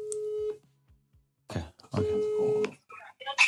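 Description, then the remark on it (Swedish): A phone dials out to call an ex-partner, with long steady ringing tones repeating after a pause; a throat-clearing rustle sits between the rings, and a brief voice-like sound follows at the end. “Då ringer jag henne nu.”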